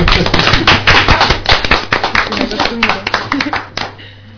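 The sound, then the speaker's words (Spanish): A small group applauds, a dense run of hand claps that keeps a steady, lively pace for several seconds before tapering off, with voices faintly mixed underneath, at the end of a class hour. “Aplaudimos al final de la hora.”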